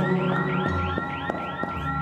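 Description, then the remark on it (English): Several electronic fire alarms blare together, rapid repeating sweeps layered over steady piercing tones, loud and continuous throughout with no voices. “Then, all of a sudden, multiple fire alarms.”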